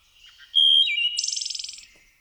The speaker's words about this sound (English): The warblers are here.